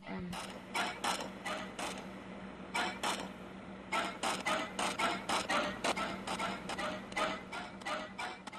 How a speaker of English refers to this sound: See, you don't really see anything, but what the noise is saying and like is that they're basically having sex in the car.